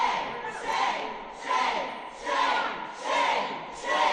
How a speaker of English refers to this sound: Three Republicans, all men, who voted in favor of the bill were booed by dozens of protesters as they left the committee meeting.